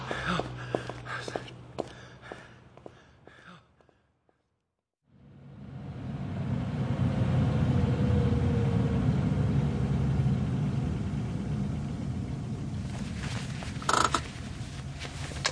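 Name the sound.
car engine running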